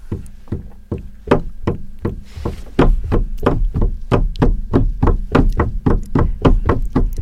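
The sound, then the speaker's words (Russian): A church semantron (bilo) beaten with a hammer while walking around the church early on a Sunday morning: around twenty loud, hollow wooden knocks with a low ringing tone, the rhythm quickening as it goes, no voices. “И вы знаете, это потрясающее ощущение, когда ты приходишь в храм, еще никого нет, он пустой, берешь в руки била, еще город спит, воскресный день, только-только уже утро начинается, и тут с молотком идешь вокруг храма и так...”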